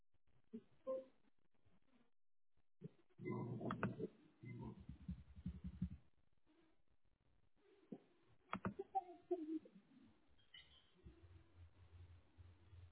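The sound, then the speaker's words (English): Two small children, one of them an eight-year-old son, babble and squeal in scattered, irregular bursts, some high-pitched and chirpy, with quieter gaps between the outbursts and a low hum near the end, heard over a call. “Is there a little one in the background? Yeah, I've got two little kiddos.”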